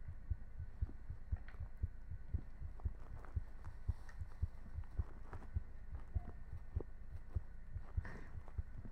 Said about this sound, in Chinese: 是你没开声音吗，大叔？心跳比较明显。